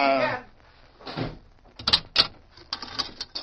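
A barred jail cell door grinds and slides, then slams shut with a few sharp metallic clanks and rattles that settle into lighter clinks.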